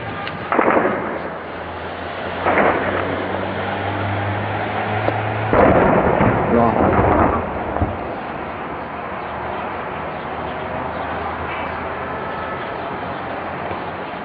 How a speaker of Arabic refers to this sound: دعونا الآن مشاهدي الكرام ننتقل بكم إلى حماة ولنشاهد بداية من حي الأربعين إطلاق رصاص كثيف وانفجارات في حي الأربعين في محافظة حماة في هذا اليوم.